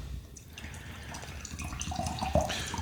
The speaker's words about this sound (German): Ich brauche erstmal einen kleinen Schluck Wasser, bevor wir hier starten.